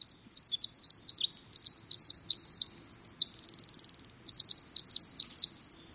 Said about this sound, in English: Bubbling, cascading, penetrating, the song of the winter wren bursts from deep within huckleberry bushes and floats beneath tall, cool evergreen trees. Listen again to one of the longest and most complex songs of the avian world.